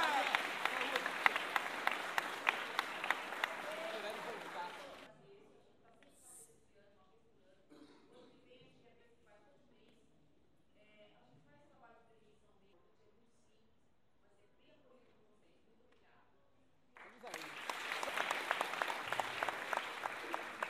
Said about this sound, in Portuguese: Gostaria que você, em primeiro lugar, recebesse uma salva de palmas a todos vocês.